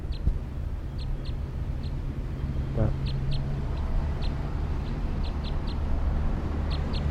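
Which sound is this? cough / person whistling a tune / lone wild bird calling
lone wild bird calling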